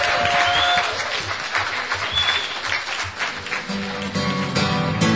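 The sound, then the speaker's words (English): A warm round of applause for this year's awardees: many hands clapping in a steady, dense wash of sound that stays loud throughout, with a few faint whistles and voices mixed in. “So I would just like to say thank you so much for your attention, and if you could just give a warm round of applause to our awardees for this year.”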